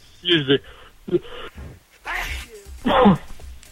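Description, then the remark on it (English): A person sneezes loudly, two sharp bursts following a few short voiced sounds, with brief pauses in between. “Bless you, man.”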